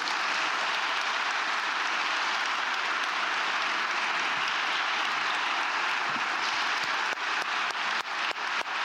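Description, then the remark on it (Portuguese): Sustained applause from a sizable crowd, a dense wash of clapping at steady volume that thins into a few scattered, separate claps near the end. “E peço uma salva de palmas”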